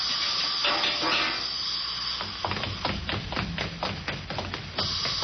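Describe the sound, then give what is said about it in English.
A steady, broad hiss of gas escaping under pressure in a lamp chimney runs through the whole stretch, joined midway by a string of soft, irregular thumps and clicks. “The gas is forming.”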